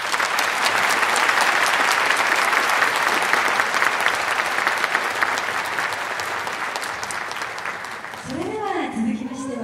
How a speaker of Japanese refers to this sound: 素晴らしいです。ありがとうございました。どうぞ大きな拍手をお願いいたします。